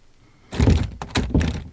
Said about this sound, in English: Fuck, the door, it just slammed shut.